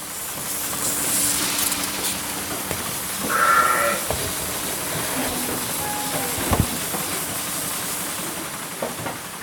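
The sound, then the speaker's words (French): Steady hissing and humming milking machinery fills a sheep milking parlour, with one short bleat early on and a sharp metallic clank later. No one speaks. “Aujourd'hui, une brebis a cassé une mangeoire en sortant de la machine à traire.”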